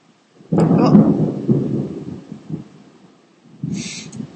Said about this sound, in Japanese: 俺は雷に反応しないようにする訓練をしないと。でもなかなかこんだけ雷が鳴るっていうのも珍しいもんで、ちょっと実況してみたくなっちゃったものの、なんか起きないと止まらないな、さすがにそろそろ。